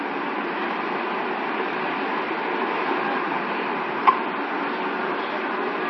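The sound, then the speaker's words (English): A steady, broad rumble of a passing train fills the whole clip at an even level, with a single sharp click or clack standing out briefly near the end. No one speaks. “Okay, so there's a train over there.”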